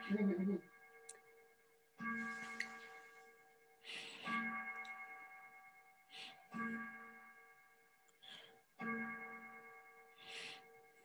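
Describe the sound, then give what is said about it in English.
A clock strikes eleven with slow, evenly spaced chimes, each bright metallic tone ringing out and fading before the next, about five strikes heard in a row, clear. “I'm going to wait for my clock to stop striking 11.”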